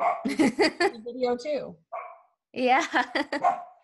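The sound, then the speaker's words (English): A dog barks in short bursts, mixed in with people talking; there's a brief lone yelp during a pause before the voices resume. “Sorry about the dogs.”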